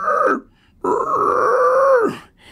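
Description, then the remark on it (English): A voice imitates a hound dog's groan: a short moan, a pause, then a longer drawn-out groan that holds steady before sliding down in pitch at the end. It is loud, with no other talking. “There's someone walking by, and the hound dog is doing this.”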